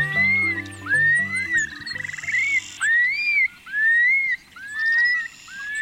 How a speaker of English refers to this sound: Every spring, in the grasslands that remain in the Great Basin and Great Plains, you may be treated to the flight display of the long-billed curlew, accompanied by its bubbling song. The male flies up with rapidly beating wings and glides down